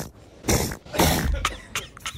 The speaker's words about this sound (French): C'est toi qui éternue?